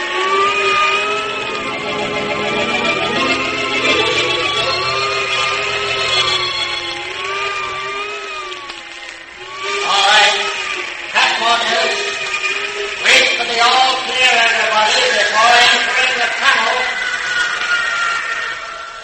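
A test plane roars at high speed, its loud engine whine wavering up and down in pitch, with harsher bursts of rushing noise breaking in during the second half.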